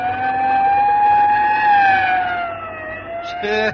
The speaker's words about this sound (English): Hey, you better pull over and let that ambulance get past before it runs us down.